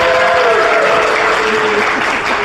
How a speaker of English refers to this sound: And a special round of applause